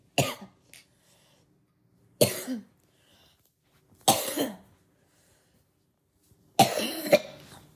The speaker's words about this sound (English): Good Lord. Okay, I'm sorry. I wasn't expecting to cough that hard.